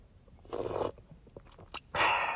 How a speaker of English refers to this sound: I'm going to take a sip of my agua, even though it's not agua.